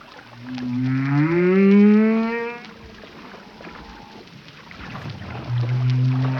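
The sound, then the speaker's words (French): Long, moaning tonal calls of a humpback whale rise and bend in pitch, one drawn-out cry followed by a lower groan after a pause, heard clearly underwater amid a faint hiss, recorded off Guadeloupe in early April during the humpback migration. “Alors là, nous sommes en Guadeloupe, hein, et puis à la bonne saison, au mois d'avril, là, début avril, quand la migration des baleines à bosse a lieu.”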